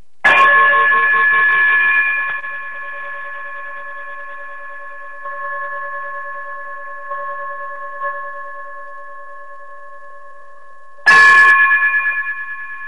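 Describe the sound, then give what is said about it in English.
A bright closing bell chime for the Tando Radio Show strikes and rings out with a long, sustained, slowly fading tone, then a second sharp strike near the end rings again. No voices are heard. “Brother Braggs, if you would, chime us out.”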